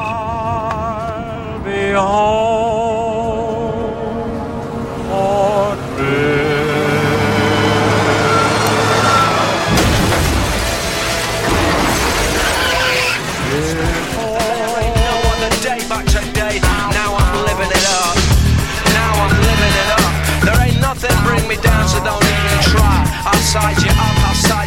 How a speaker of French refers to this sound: la mort de Nathanaël Père, il meurt percuté par un bus en voiture. à la veille de Noël en l'an 2000